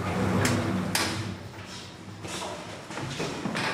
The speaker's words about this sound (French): Cinquième étage, ouverture des portes.